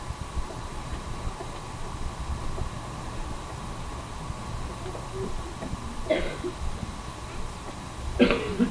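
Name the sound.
coughing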